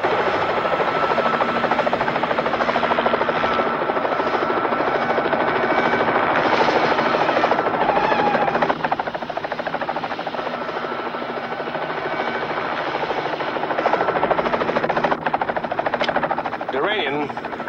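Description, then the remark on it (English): A helicopter flies parallel to a van on a steep, winding mountain road, its rotor drone loud and steady for the whole stretch with a dense, thrumming roar that dips briefly midway before surging again. “Jason sees the helicopter in his wing mirrors and looks shocked.”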